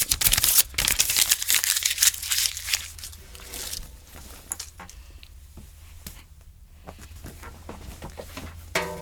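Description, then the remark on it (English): Homework paper is crumpled and ripped, a burst of loud crackling and tearing for the first few seconds that settles into softer, intermittent rustling over a faint low hum. “DW wrecked my paper!”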